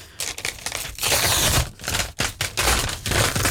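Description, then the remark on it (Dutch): Wrapping paper being torn and crumpled off a small red gift package in rapid, crackly, loud bursts, with brief pauses between rips; no talking. “En het is niet zo heel groot en het wordt nu uitgepakt. Ja, spannend. Ja, dus het papier gaat eraf.”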